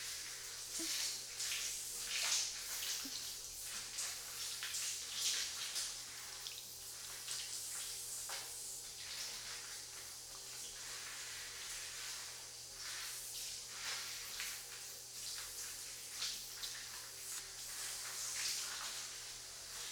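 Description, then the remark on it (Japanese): A steady shower spray of lukewarm water hisses continuously, pattering and splashing against skin as the body is wet before body soap is applied, with small fluctuations in the flow and no voices. “いきなり肌にボディーソープをつけるんじゃなくて、ぬるいお湯で濡らすのが大事なの。”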